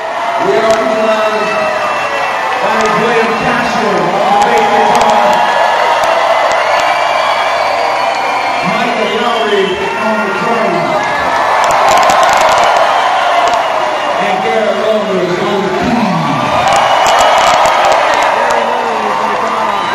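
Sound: audience applause and cheering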